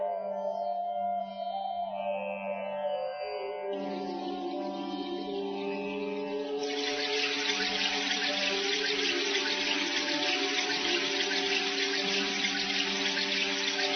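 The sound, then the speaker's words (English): Steady rushing water of the river Tamasa swells in partway through and keeps flowing, loud, over sustained musical tones that begin alone at the start. “Look at the descent of the river Tamasa, O Bharadwaja. It is free from mud and pleasant.”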